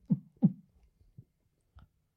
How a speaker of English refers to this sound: It's the heartbeat from the Demon Finn Balor theme song.